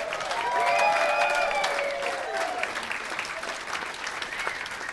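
Sustained applause from an audience, a dense wash of clapping that stays fairly loud throughout, with some cheering and whooping voices rising over it near the start.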